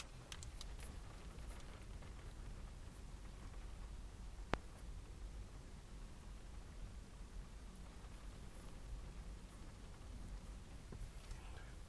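Steady rain patters against a car window, a soft, even hiss scattered with tiny ticks of individual drops and one sharper tap midway, quiet with no voices.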